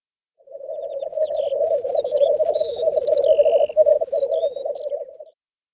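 Thin, high bird whistles and chirps flit on and off above a dense, steady croaking chorus, like frogs, that runs continuously for about five seconds with no voices.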